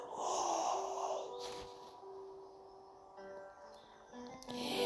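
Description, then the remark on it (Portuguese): A deep, breathy exhalation during a breathing exercise flows out for about a second and a half, then fades into soft, steady tones in a calm, quiet background. “E outra. Deita fora, respirando profundamente.”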